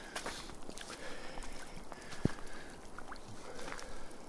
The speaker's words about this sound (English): A river, this is.